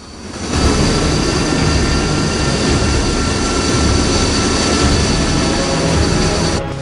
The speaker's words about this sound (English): Mitchell watches as the engineer guides the stealth fighter out of the hangar.